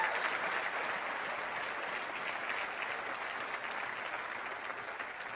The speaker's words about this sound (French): Je vous parle de la moisson du pardon. Applaudissez la moisson du pardon.